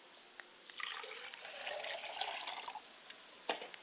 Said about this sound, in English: And hope that the water will hit the ground and take root, and the word will spring up and grow, and some will come and water it, but God will give the increase.